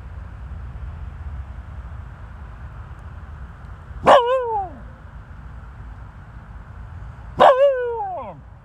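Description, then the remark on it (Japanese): Two sharp barks from the dog Toichiro, barking toward the opposite bank outdoors in Sapporo, ring out a few seconds apart over a steady low outdoor rumble, each a short harmonic yelp that drops in pitch, loud. “向こう岸に向かってなぜか吠える東一郎くんでした。”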